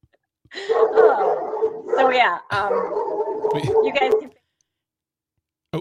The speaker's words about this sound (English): Sorry, my dog's barking. Your dog is very upset about this too. Yes, your dog is not happy.